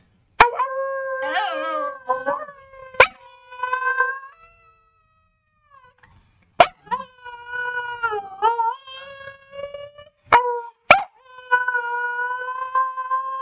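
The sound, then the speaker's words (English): A dog howls in long, wavering, husky-like cries, several drawn-out howls rising and falling in pitch with brief pauses and a few sharp clicks between them, fairly loud. “Oh God, are we making him howl again?”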